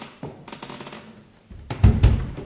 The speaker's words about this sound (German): Ich kriege seit Jahren keinen Besuch. Wer klopft da bitte schön?